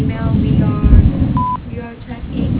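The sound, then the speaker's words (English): A single short, steady mid-pitched answering machine beep on a dental office's voicemail sounds clearly for a fraction of a second, with muffled voices and low rumbling murmur continuing before and after it. “If you would like to leave a message to the office, please do so after the beep.”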